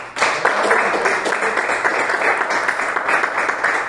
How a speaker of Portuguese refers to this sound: Essa é a palavra que o Senhor colocou no meu coração e as palmas que glorifiquem ao Senhor Jesus nessa noite.